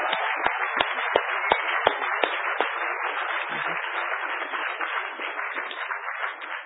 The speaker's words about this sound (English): Could we just give him another round of applause real quickly?